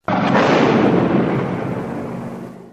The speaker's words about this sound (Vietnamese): Đến gần quả mìn, nó dòm ngó một hồi, rồi đưa tay gỡ chốt. Vừa chạm tay vào quả mìn thì một tiếng nổ dữ dội vang lên.